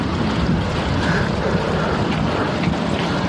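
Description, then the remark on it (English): Strong wind roars steadily across the microphone outdoors beside a church, a loud, continuous rumbling buffet with no pauses and no voices. “Crazy windy.”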